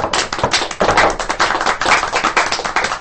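Steady applause from a small group right after a celebratory toast at a gathering held at a Karaoke no Tetsujin karaoke venue, a dense stream of overlapping hand claps that stays loud and even for the whole three seconds with no voices over it.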